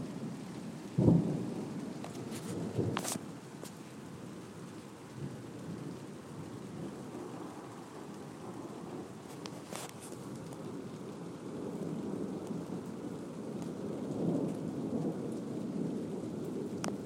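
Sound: distant thunder with rain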